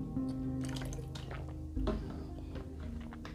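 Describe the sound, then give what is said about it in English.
Someone drinks water: a few soft gulps and liquid sloshing sounds over a low steady hum, with no talking. “Excuse me, I need to drink water.”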